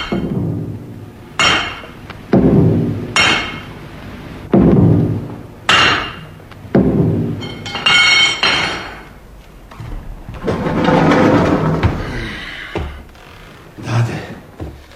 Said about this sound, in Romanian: În atelier nu se aud decât loviturile ciocanului.